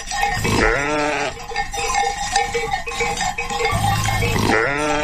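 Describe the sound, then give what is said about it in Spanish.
A flock of thousands of sheep bleating outdoors in endless green meadows in the mountains of Northern Ireland, several overlapping wavering calls over a steady background of quieter bleats and faint field ambience. “Ovejitas, muchas ovejitas, miles de ovejas en esos interminables prados verdes, que oye, ya sé yo por qué están verdes, ¿eh?”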